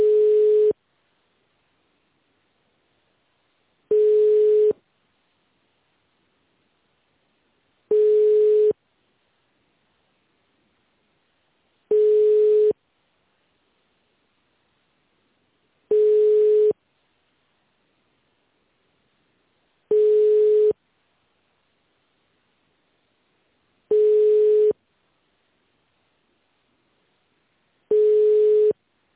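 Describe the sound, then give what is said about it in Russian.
A telephone ringback tone while a call is being transferred to an employee's mobile phone: a steady mid-pitched beep about a second long, repeating every four seconds, eight times in a row, clear and alone with silence between. “Ваш звонок переводится на мобильный сотрудника.”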